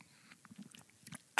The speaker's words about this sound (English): Another sip of coffee. Hold on.